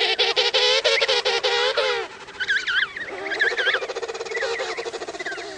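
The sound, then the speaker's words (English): Emperor penguin calls: a chorus of loud, warbling, trumpeting cries with rapid pulsing harmonics, several birds overlapping in close succession. “It's just one of the adaptations that allows the emperor penguin to survive in one of the most hostile environments on the planet.”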